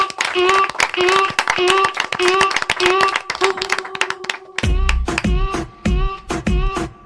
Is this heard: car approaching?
no